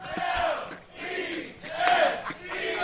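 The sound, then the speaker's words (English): A large crowd chants in unison, loud, with rhythmic swells of shouting voices rising and falling in repeated bursts. “In front of this crowd? Are you kidding me?”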